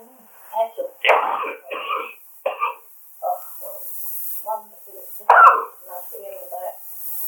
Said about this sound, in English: Well, he's coughing away there. I should imagine he smokes too much. You know, he smokes like anything.